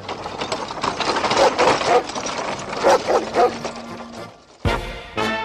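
A dog barks several times in quick, irregular bursts against a busy, noisy background, followed by a sudden loud thump near the end.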